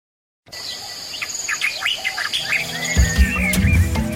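birds chirping and singing

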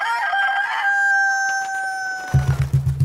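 rooster crowing

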